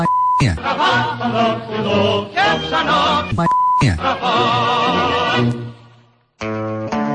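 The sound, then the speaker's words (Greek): Two short, steady censor bleeps cut in over a loud voice, one near the start and another about halfway through, before a brief quiet gap and more sound at the end. “με μπιπ βέβαια, γιατί δεν γίνεται διαφορετικά,”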